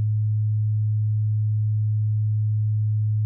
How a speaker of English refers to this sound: In a moment, you'll hear a 100 Hz tone in your left ear. Now in your right ear, you'll hear another slightly different tone, oscillating at 107 cycles per second.